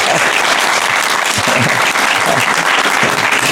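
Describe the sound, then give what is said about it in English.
Steady, loud applause from an audience, a dense crackle of many hands clapping continuously throughout with no pauses, bright and hissy across the whole range. “I didn't want to buy an applause for a cheap price.”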